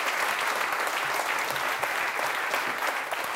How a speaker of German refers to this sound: Und Sie sind trotzdem hier im Weserstrand. Herzlichen Dank. Das ist nochmal ein extra Applaus wert.